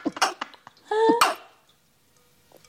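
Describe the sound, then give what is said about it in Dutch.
A small, stifled sneeze: a few quick sharp breathy bursts and a brief squeaky catch, followed by near silence and a faint click at the end. “Je hebt echt een schattigste nies, Ja, dat is heel slecht voor mijn hersencellen, maar kijk.”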